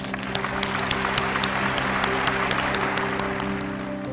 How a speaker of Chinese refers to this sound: 每次对接以后呢，我们大厅里头全是一片掌声雷动。